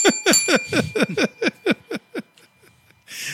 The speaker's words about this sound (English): Ring the bell. I get the bell for that one.